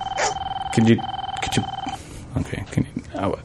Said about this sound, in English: People are starting to call in, I believe. Let's wake him up. I hear the... telephone ringing.